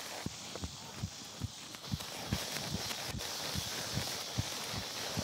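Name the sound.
horse walking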